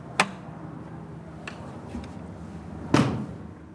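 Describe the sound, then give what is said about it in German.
A heavy church door in Oberdiessbach opens with a sharp latch clack, a few faint creaks and clicks follow, then it swings shut with a loud, booming thud that echoes and fades. “Posten 9, der letzte, ist hinter einer schweren Tür.”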